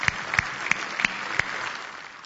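An audience applauds in a steady wash of clapping, with a few sharper individual claps standing out before the sound gradually softens toward the end.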